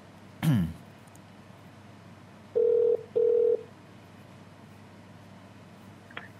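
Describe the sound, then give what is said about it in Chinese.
A phone-in call line connecting tone as a talk show takes another caller: two short, steady mid-pitched beeps in quick succession, fairly loud and clear, preceded by a brief throat-clear-like thump, with no talking. “咁我哋而家接个另外一个电话”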